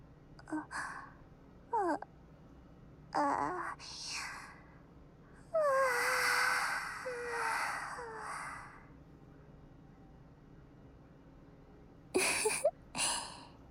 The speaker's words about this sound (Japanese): あら、わあ、大きなあくび。